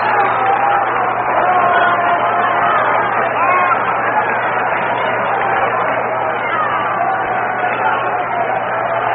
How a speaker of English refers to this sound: Now the crowd of nearly 20,000 at Candlestick Park, starting that rhythmic clapping.